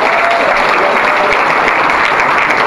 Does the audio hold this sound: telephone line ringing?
no